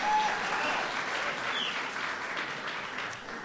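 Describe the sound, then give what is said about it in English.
Sustained applause from an audience at a speech, after a statement about record high school graduation rates and the Latino dropout rate being cut in half, a dense crackle of many hands clapping at a steady, fairly loud level for several seconds with no voices standing out. “That's worth applauding.”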